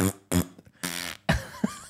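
A jingle's few short, loud vocal bursts in quick succession end with a raspy, sputtering fart noise, likely made with the mouth. It sounds punchy, with no talking.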